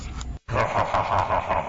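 Paper rustling as Bible pages are turned, a steady papery crackle with a brief silent break, then continuous soft swishing and crinkling that stays fairly even in loudness. No one speaks.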